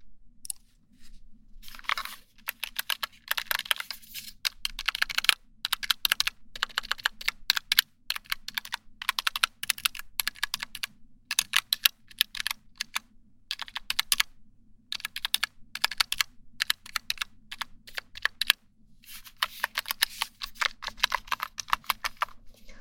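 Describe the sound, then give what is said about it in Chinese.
Rapid clicking of keys on a small battery-powered wireless numeric keypad that lights up, bought online, tapping in quick irregular bursts for the whole stretch with only brief pauses and no voices. “这好像没有我的键盘好听，可是我键盘声音太吵。”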